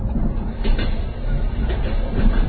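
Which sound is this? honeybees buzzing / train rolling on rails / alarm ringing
train rolling on rails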